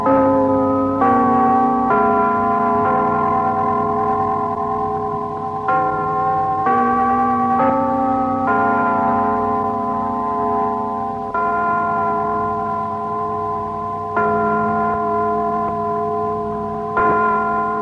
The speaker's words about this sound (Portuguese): Ao soar o carrilhão batendo as 12 badaladas, ao se encontrarem os ponteiros na metade do dia,